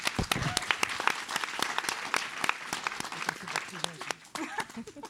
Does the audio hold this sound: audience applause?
yes